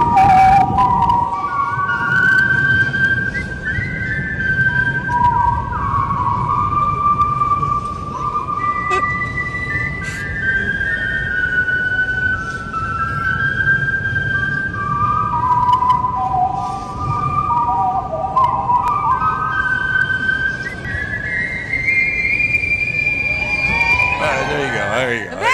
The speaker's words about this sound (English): Whistling the national anthem.